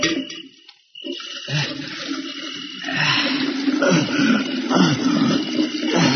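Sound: water filling a container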